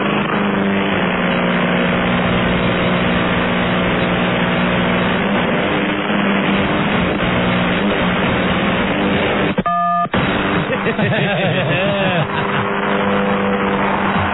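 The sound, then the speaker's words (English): A mobile phone is destroyed: a loud, steady mechanical drone with a tonal hum, broken by a sudden burst of cracking plastic, followed by scattered rattling as shards of plastic are hurled through the air and the motor keeps running. “Some real grade A phone destruction.”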